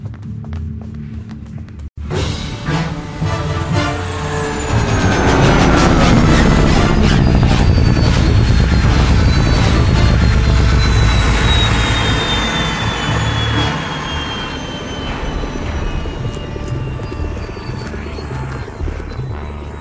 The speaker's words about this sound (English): He has the new spa space yacht, the 790. Just listen to that engine purr.